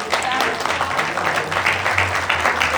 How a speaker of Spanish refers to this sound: ¿Podría darle un aplauso a Dios?